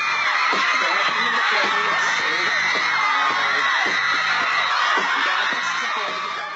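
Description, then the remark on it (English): A dense crowd of screaming teenagers in Times Square, at MTV's TRL studio or out on the street, screams and shrieks continuously for favorite pop stars. It is loud, with bursts of excited laughter and whoops woven through the sustained high-pitched din. “Screaming teenagers would pile into Times Square, either inside MTV's fishbowl-like studio or out on the street, shrieking for favorite pop stars and their videos.”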